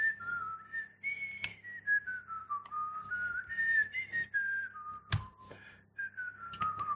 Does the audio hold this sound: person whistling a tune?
yes